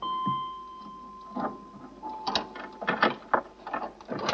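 Metallic rattling and clanking as a door bolt is drawn and a closed metal gate behind the door is opened, a steady faint tone at first, then a run of sharp, irregular clunks and scrapes.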